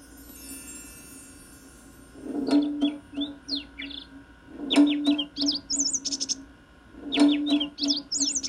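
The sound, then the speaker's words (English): A tropical bird calls in three repeated bursts of bright, warbling chirps and whistles, clear, with short pauses between each phrase over a low steady background hum. “Tropical bird.”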